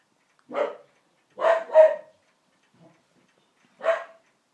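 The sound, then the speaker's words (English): A dog, Toshi, barks four times in short, sharp bursts while having his food: a single bark, a quick double, then one more after a pause. Clear, with no talking. “Toshi's having his food out there and sometimes he growls when you walk past”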